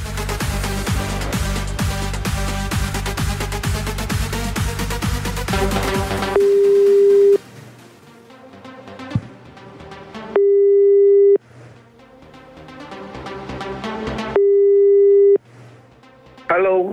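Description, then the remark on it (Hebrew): A telephone ringback tone sounds three times as a call is placed live on air, each steady one-second burst spaced about four seconds apart, over quieter background music that follows a loud musical passage at the start. “יש לו מספר טלפון, בואו נפתיע אותו בשידור חי, בבקשה.”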